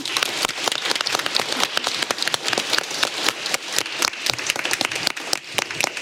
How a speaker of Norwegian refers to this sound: Ja. Men han kan få en kjempeapplaus.